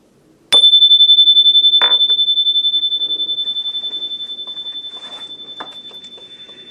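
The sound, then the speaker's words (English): A single bright chime rings out sharply, then sustains a clear, pure tone that slowly fades over several seconds, with a few faint knocks and rustles underneath. “That was my chime”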